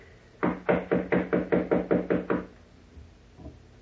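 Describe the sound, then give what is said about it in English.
A quick, steady series of about nine firm knocks on the wooden door of a suite where a woman is thought to be asleep, fairly loud, followed by quiet with one faint thud. “She must be asleep. Knock again, please, will you?”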